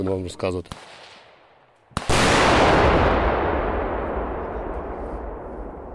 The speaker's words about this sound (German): Eine Panzerabwehrmine detoniert daraufhin und erschüttert das Gelände.